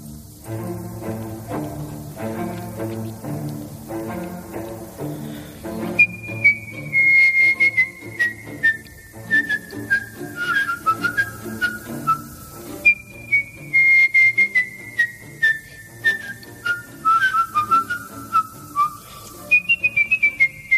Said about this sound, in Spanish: Qué maravilla. Silbido en directo. La música también, claro, de fondo me da una pista importante. Es la ópera Carmen de Bizet.